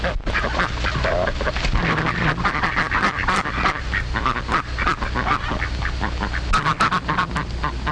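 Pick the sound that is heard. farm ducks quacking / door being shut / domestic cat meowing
farm ducks quacking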